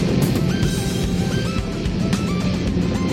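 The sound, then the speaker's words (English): A launching rocket's engine roars steadily as it climbs into the clouds at 3,000 feet, shaking a building and its big glass window: a loud, continuous low rumble with crackling bursts throughout, heavy and unbroken for the whole stretch, with no voices. “Look at the rocket go into the clouds at 3,000 feet.”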